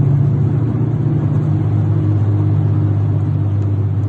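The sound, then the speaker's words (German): A steady, loud low-pitched grinding drone from a worn wheel bearing on a car driving along, a continuous hum and rumble with no pauses and no voices over it. “es war wirklich so ein mahlendes Geräusch.”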